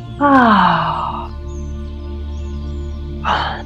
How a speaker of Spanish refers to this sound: Ah, un bostezo.